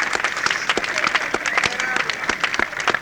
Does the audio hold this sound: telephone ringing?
no